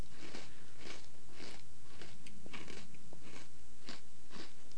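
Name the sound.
crunchy chewing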